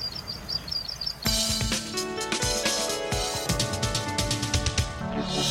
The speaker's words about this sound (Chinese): 河头鹪鹰身长约15公分，尾羽很长，几乎占了身长的一半。褐色的头顶是显著特征。河头鹪鹰滴滴滴的鸣叫声，就像民谣